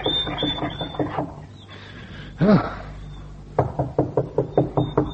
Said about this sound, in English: Raoul knocked on the door of the farmhouse.